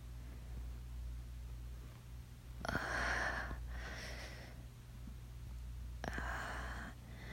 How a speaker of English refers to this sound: I am not moaning, sir. I'm just panting. Because it's so hot in here, you know?